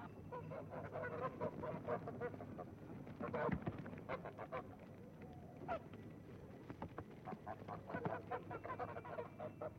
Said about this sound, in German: Mit seiner Trompete lockte Josef die Gänse der Bauern auf die Straße. Aus allen Gassen und Gehöften kamen die schnatternden Zweibeiner.